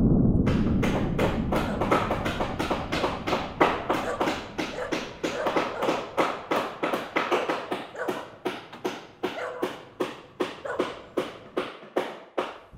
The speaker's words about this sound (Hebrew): וכעבור כמה ימים נבנו מכונות הברזל האלו מחדש, ושוב המשיכו לנגח בחומה ללא הרף. והעיר ירושלים החלה שוב להזדעזע מכל אלי הברזל. ואט אט החומה הראשונה החלה להיסדק.